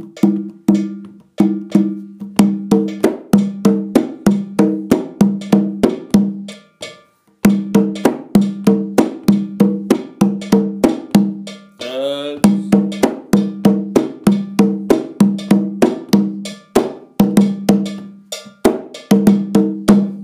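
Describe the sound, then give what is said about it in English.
A cowbell is struck in a steady, driving rhythm as part of a music piece, bright metallic hits layered over pitched percussion. A brief shaker-like rattle breaks in around the middle before the pattern resumes. “So, bell, shake out, shake out.”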